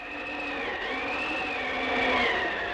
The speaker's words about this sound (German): Der Regen hatte endlich wieder aufgehört, aber der Wind pfiff durch die Ritzen. Ja, das tat er. Ungefähr so.